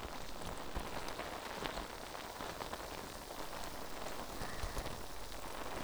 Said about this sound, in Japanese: 泡が耳元でシュワシュワする音、お好きですか？